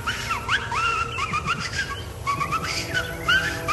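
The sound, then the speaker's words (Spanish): Repeated short, sharp whistles, rising and falling in quick succession over a steady low rumble of background noise, fairly loud. “Entonces dije, no, de pronto escuché chiflidos.”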